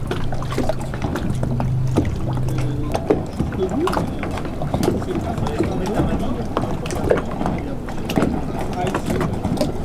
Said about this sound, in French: L'ambiance du clapotis de l'eau et des vaguelettes vous amèneront-elles à un voyage sonore?